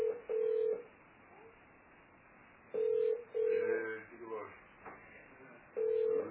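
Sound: telephone dialing tones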